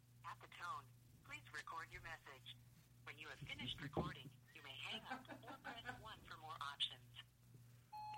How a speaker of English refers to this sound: All right, we're calling Rory Scovel. The phone is ringing. Of course, we can only let it ring 68 times. That's our limit. Chris Hardwick has a limit on 68 rings.